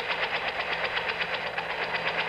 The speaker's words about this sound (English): My metals are bringing them there. My metals. In the form of a helicopter. They're all ready to land on the front lawn right now.